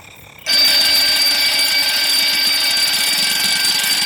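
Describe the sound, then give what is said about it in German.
A loud mechanical alarm clock bursts into ringing after a brief quiet moment, its bell clattering and rattling continuously and harshly until the end. “Der Wecker hatte geklingelt.”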